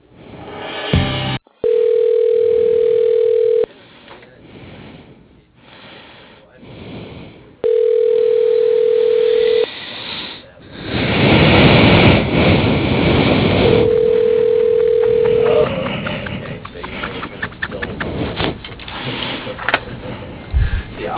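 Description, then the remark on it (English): A phone line rings back three times while a call is transferred to a voicemail, each steady tone lasting about two seconds with long pauses between, over a hissy, rumbling line with bursts of noise. “Okay, yeah, so just send me over to his voicemail. See if I can reach him that way.”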